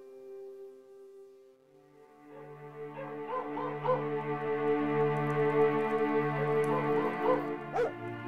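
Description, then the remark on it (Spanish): Dogs bark and yip in the distance at night under the moon, a few scattered calls rising over a steady, humming musical drone that swells gradually and holds throughout. “A lo lejos, ladrido de perros.”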